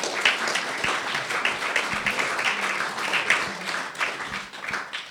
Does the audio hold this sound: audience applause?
yes